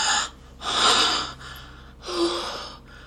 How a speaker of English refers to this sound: I'd forgotten how you used to sniff at me before you'd lick me. God, your nose on my clit brings back so many memories.